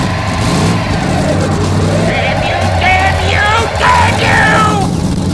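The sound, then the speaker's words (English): A car engine revs hard in reverse while the rear tires spin, squeal and spew burned rubber, a loud, continuous roar with rising whines rippling through it for several seconds. “Jamming the gear shift into reverse, he stomped on the gas, causing the rear tires to spin and spew burned rubber.”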